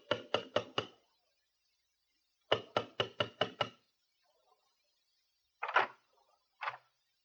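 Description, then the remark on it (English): Sharp, rapid knocking on a door with a brass door knocker and a sprig of Christmas holly above it: a quick series of four raps, a pause, then six more in an even rhythm, followed by two softer, muffled thumps. “The long ride up on the elevator, walk down the carpeted corridor, the sprig of Christmas holly above the brass door knocker. This time we'll knock”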